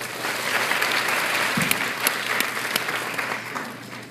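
A crowd claps steadily for about four seconds, a dense, even patter of many hands at moderate loudness with a few sharper claps standing out, and no talking over it.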